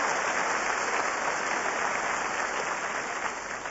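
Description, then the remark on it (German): An audience claps steadily, a dense wash of many hands with no pauses, holding at an even loudness for a few seconds before easing slightly at the end. No voices are heard. “Ja, kann man klatschen, ne?”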